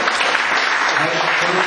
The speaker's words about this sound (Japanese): ここで盛大な拍手という言い方をしますと、いや、癖になりますので、大変なのが癖になります。ほどほどの拍手をもう一度お願いします。